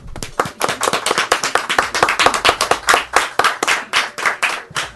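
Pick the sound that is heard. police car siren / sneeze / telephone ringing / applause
applause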